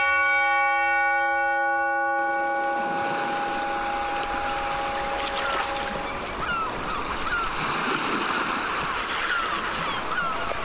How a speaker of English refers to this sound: It's a silence you can hear because you're surrounded by enormous mountains, the sea, the samaras in the distance. You get the lapping of the water, you get the seabirds, there's wildlife, but there's that stillness which is tangible.